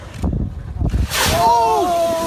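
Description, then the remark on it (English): A voice imitates a whale breaching beside a whale-watching boat, with low thumping bursts building to a loud, whooshing splash, followed by a drawn-out, wavering exclamation. “And all of a sudden, this whale, I'm talking about, almost hits the boat. It comes out and goes, wa-boom!”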